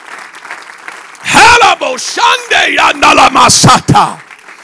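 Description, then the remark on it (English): An audience claps their hands as loud shouts and whoops rise over the clapping. It starts as a soft murmur, then swells into a steady, energetic burst. “Come on, clap your hands.”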